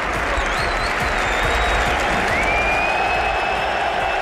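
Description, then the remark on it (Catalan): The Camp Nou stadium crowd gives midfielder Gavi a loud, sustained ovation on his return after 203 days, during Barça's 5-2 win over Sevilla, dense applause and cheering filling the whole stretch, with occasional shrill whistles rising above the steady roar. “El migcampista Gavi, que va reaparèixer 203 dies després, havent superat els problemes al menisc intern del genoll, i va rebre l'ovació del Camp Nou.”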